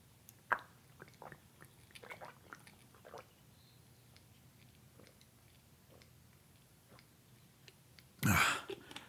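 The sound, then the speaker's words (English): Someone drinks water, with faint wet mouth clicks and soft swallowing noises scattered over several seconds, then a short, louder breathy gulp near the end. No one speaks. “I have to drink water.”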